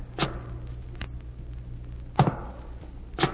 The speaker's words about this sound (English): And one night I heard footsteps above me in the tower.